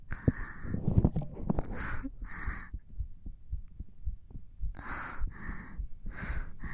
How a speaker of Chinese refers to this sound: 是不是都听到姐姐的心跳了呢？